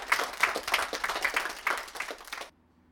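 audience applause

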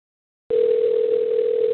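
telephone call ringing unanswered

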